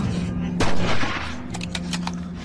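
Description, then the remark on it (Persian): A loud, sharp gunshot blast rings out, followed by a rapid burst of several quicker cracks over a steady low rumble, with no voices. “باید بگم که احتمالا دوستای همین صدای گلوله را شنیدن، پس یا همین الان به شلی کن یا با خودت برش گردون.”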